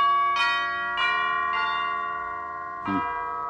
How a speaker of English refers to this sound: Wow. Look at the size of this mansion. Tremendous. Ring the bell, will you?